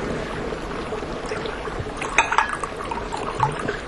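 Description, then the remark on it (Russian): Water pours steadily into a cup for a few seconds, a soft continuous splashing trickle with a few brighter gurgles near the end, fairly quiet. “А вот, вот вода.”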